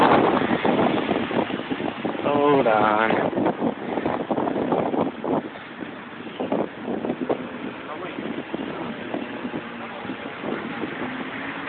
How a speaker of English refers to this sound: It's going to be really windy right here.